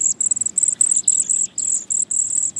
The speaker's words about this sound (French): Facile à reconnaître par son chant, le jaseur d'Amérique est un oiseau plutôt difficile à observer. Quand tu l'entends, regarde le sommet des arbres morts et découverts. Tu apercevras peut-être une bande de jaseurs à l'affût d'insectes volants.